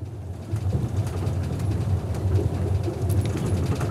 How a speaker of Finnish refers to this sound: Tää on itse asiassa aika vanha juna.